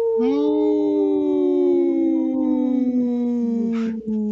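One long, unbroken wolf howl, loud, holding a steady tone that slowly sinks in pitch over several seconds before breaking off, with no talking over it.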